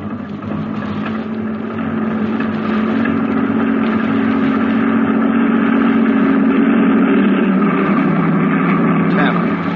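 The engine of a heavy convoy truck, number 10 in the line, rumbles steadily in a low, droning growl, swelling slightly louder over several seconds as the truck approaches.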